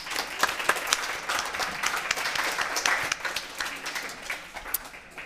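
Audience applause rises into a steady wash of many hands clapping, dense and fairly loud with scattered sharper claps, then thins slightly toward the end. No one speaks.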